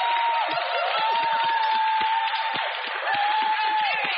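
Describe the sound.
A crowd applauds and cheers for a Liberal election candidate in a steady, dense wash of clapping and voices that holds at an even loudness throughout, with a high sustained whistle-like tone running through it.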